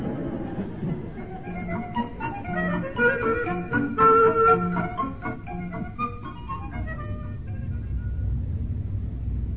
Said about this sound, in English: There's always the engine room, of course. Perhaps the steady rhythm will lull you to sleep. I doubt it, sir. You haven't heard our engines.